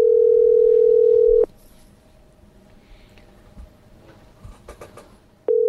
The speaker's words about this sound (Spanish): tercer tono, no pongáis a hacer otra cosa. Pendiente del teléfono. Este se ha ido a comer y ha dejado el teléfono.